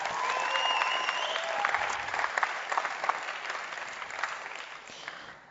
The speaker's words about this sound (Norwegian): Takk for den jobben dere gjør. Vi klapper for de.